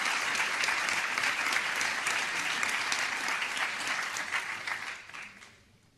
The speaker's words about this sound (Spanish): Reciben el aplauso de todos los asistentes.